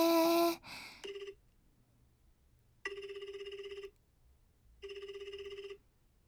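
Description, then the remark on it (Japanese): A phone call to a listener connects with a brief burst of dial tones, then an outgoing ringback tone repeats in steady, evenly spaced rings separated by silence, clear with no voices. “リスナーさんとお電話するの初めてだから緊張しますけど、それではかけてみましょうね。”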